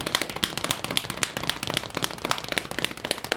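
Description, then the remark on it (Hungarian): Folk dancers tap and slap out a fast, dense rhythm with their hands and feet, a steady stream of sharp, crisp hits with no voices. “És akkor most feltekerünk egy szőnyeget, és azt szeretném, hogyha kézzel lábbal kopognának nekem valamit.”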